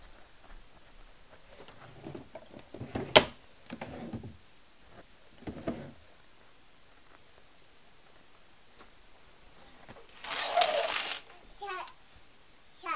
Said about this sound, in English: Shut. Shut the drawer. Boom. There we go.